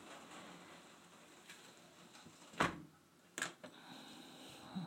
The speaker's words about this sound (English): I'll shut the door now.